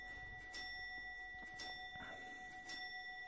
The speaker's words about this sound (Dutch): Ja, de klok die gaat er tussendoor.